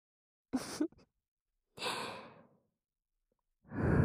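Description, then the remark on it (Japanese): Three soft breaths blown toward the listener in turn to bring deep relaxation, with pauses between: a quick airy puff, a longer drawn-out exhale, then a fuller breath starting at the end. “深いリラックスと脱力をもたらす私たちの吐息によってね。”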